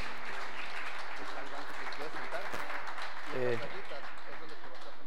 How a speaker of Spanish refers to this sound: Te voy a pedir que le des un aplauso,